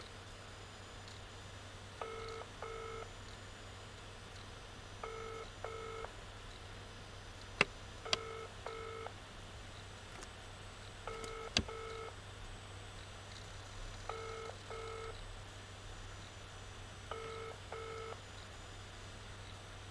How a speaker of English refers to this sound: No one will pick up the phones in that building.